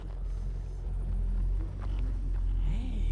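A car approaches, its deep engine rumble droning steadily, the low hum holding fairly constant with a slight swell toward the end, with no voices over it.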